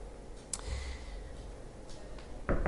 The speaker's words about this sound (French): Excusez-moi, parce qu'il y a les chaises qui tapent dessus.